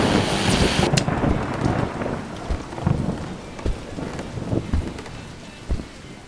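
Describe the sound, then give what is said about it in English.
Heavy rain pours down steadily while low thunder rumbles underneath, with a loud hissing burst at the start and scattered sharp splashes throughout; a storm from a cold front pushing through New England to the greater Boston area; no one speaks. “Just in, there will be a cold front pushing through New England, bringing heavy rains and high winds to the greater Boston area, on up to parts of Western Mass.”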